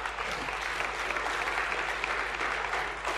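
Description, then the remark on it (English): A crowd gathered for a church event claps steadily for themselves and the Lord throughout, a dense, even wash of many hands applauding at a fairly loud, constant level with no voices breaking through. “So to the guys and ladies and to God that gave us the day, let's give yourselves and the Lord a round of applause.”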